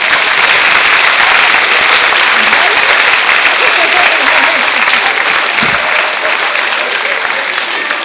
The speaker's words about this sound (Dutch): Ze hebben heel goed meegeholpen. En ik wil graag een heel groot applaus voor deze kinderen.